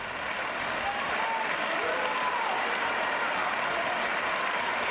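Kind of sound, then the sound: crowd, applause and cheering crowd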